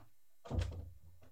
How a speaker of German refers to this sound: Ich muss mal gerade die Tür zumachen.